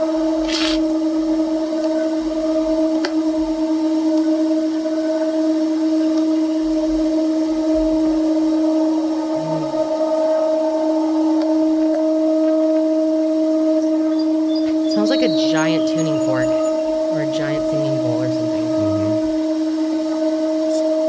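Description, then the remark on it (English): A loud, unexplained hum hangs steadily in the sky in Ohio in 2017, lasting 15 to 20 minutes: a low droning tone with a higher overtone that never wavers, joined near the end by brief warbling, squeaky noises. No one speaks. “It's just this loud hum almost. Does not sound like anything natural.”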